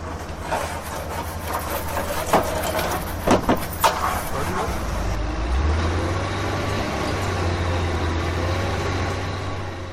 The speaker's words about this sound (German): Wir stehen jetzt hier gerade vor der Berufsschule und wie man hört, ist hier einiges an Baulärm und wir wollen jetzt einfach mal wissen, was hier los ist.